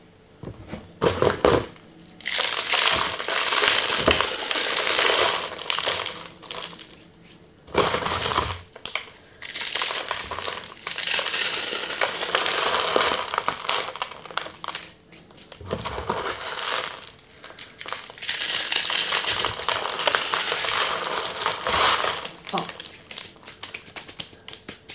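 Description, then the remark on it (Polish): Dry instant noodles from soup packets are crushed by hand as an ingredient for a salad, giving loud, dense crunching and crackling in three long bursts separated by brief pauses, with rustling of the packet throughout. “Teraz musimy pokruszyć ten makaron z zupek, który będzie składnikiem też tej sałatki.”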